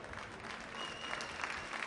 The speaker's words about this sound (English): And Dominguez, a round of applause from the hometown crowd.